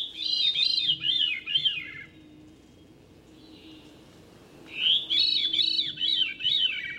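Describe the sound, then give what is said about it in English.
A veery thrush sings two breezy, fluty phrases, each a rapid run of wavering, swirling high notes, separated by a couple of seconds of quiet. No voices are heard. “Or a thrush, like this veery.”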